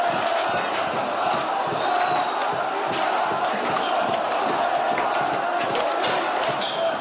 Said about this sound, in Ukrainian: В столиці Лівану, Бейруті, підпалили, наприклад, приміщення посольства Данії, а в Сирії рік тому протестанти атакували дипломатичні місії Данії і Норвегії. Послухайте, як це було.